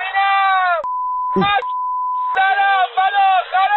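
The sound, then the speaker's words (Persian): A voice speaks, then is cut off by a steady, high-pitched censor bleep over swear words in a recorded report; it holds for over a second, breaks briefly around a snatch of speech, sounds again, then the talking resumes. “پیش از پخش این گزارش خاطر نشان میکنم که در این گزارش نور شدید فلاش دوربین و تعدادی فحش و الفاظ بدبد وجود دارد که بر روی آنها بیب‌گذاری مناسب صورت گرفته است.”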